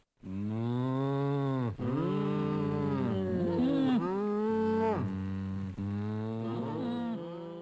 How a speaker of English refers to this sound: Yes, I think we've established those are cows.